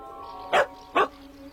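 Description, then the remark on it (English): Two sharp dog barks about half a second apart, loud against a quiet background, with no one speaking. “Dog, catch!”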